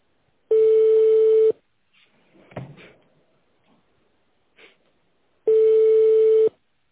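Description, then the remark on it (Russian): Two steady, buzzy ringing tones on a phone line to the Gzhel Elektroizolyator plant, each about a second long, separated by a four-second pause filled with faint clicks and rustling while the call waits for the secretary to answer. “Наберите в тональном режиме номер абонента или дождитесь ответа секретаря.”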